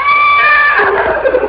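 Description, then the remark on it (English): A horse whinnies loudly, a high wavering neigh that starts tonal and breaks into a rough, shaky descending whinny over about a second and a half. “Shut up, horse.”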